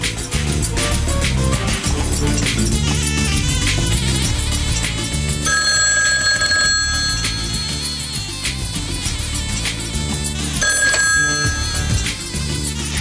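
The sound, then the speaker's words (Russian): A telephone rings loudly in two long bursts separated by a pause, its bright bell tone standing out over a dense, busy background of layered sound. “Алло. Мсье Дюваль у телефона.”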